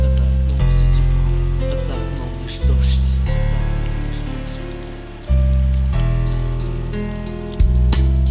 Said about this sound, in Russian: А за окном все темно, а за окном лишь дождь.